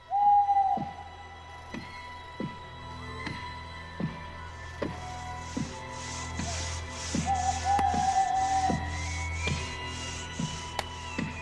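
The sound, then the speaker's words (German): A small owl hoots in drawn-out calls from the treetops at night while steady axe chops strike a tree trunk at a regular pace, with rhythmic sawing rasping in partway through. “Bei Nacht und bei Mondschein, dazu ein Käuzchen in den Baumwipfeln, Sägen und Hacken am Stamm.”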